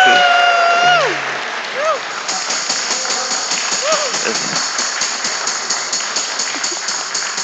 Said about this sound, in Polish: Już Kościół składał mi urodziny tydzień temu, ale dziękuję bardzo za także i te burzliwe oklaski. Bardzo dziękuję.